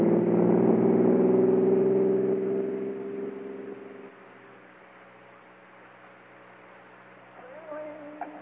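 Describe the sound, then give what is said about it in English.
A car engine runs with a steady low hum and harmonic drone, loudest at first, then fading to a quieter idle after a few seconds, with a faint voice-like sound near the end. “In a minute, I'll stop the car and let you know what is yours.”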